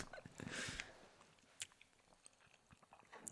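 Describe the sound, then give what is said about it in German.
Close-up chewing of something sour right at a microphone, with wet lip-smacking and soft mouth clicks, starting with a brief crunchy burst and continuing in irregular, quiet bites. No one speaks. “Ich will es auch nicht so ins Mikro schmatzen irgendwie, aber.”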